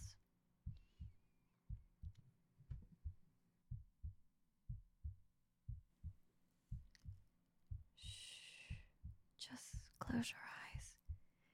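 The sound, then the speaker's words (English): A slow, steady heartbeat thumps in soft paired beats, repeating evenly throughout, with brief breathy, whispery rustling sounds rising over it near the end. “listen to my heart beating, a soothing lullaby to fall asleep to.”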